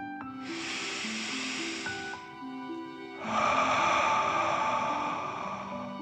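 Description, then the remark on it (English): A slow, deep breath drawn in for about two seconds, filling the chest and belly, then a brief pause and a long, airy exhale. It is clear over soft, sustained background music. “Last one, fill up your chest and belly, deep breath in and out.”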